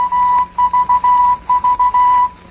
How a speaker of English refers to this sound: On September the 1st, 6 years to the day that World War II had started, it ended. And with the Morse code for V for victory sounding, the signing of the Japanese surrender was broadcast to the world.